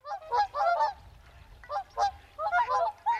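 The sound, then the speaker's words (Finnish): Whooper swans trumpet in a series of bugling, honking calls, several birds overlapping in short clustered bursts, clear over a faint low rumble. “Laulujoutsen Ultima tuulen lintu -kirjan viimeisessä luvussa on runo laulujoutsenelle.”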